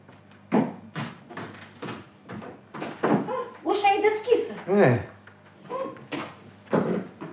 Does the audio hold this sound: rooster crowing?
no